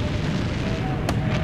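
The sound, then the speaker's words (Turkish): Naval cannon fire in the sea battle at Çanakkale: a heavy, continuous low rumble of booming guns, broken by one sharp, bright blast near the end. No voices are heard. “Ateş!”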